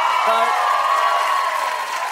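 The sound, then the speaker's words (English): An audience applauds a guest's 60th birthday in a steady, dense wash of clapping that holds at an even loudness throughout, with some crowd voices mixed into the noise. “I don't know if you all would be applauding if you knew what birthday it was.”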